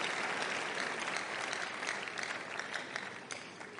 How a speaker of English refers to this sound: I can see somebody wants to clap for the Lord. If you do, please do that joyfully.